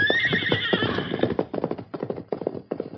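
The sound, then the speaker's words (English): A horse gives a loud, shrill whinny, then hooves clop in a quick, uneven rhythm as the sheriff's son rides the horse away, the hoofbeats continuing in bursts without any talking. “Get up, horse.”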